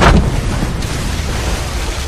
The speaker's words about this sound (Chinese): 最后一阵巨大的海浪卷走了小船，把女娃也卷进海中。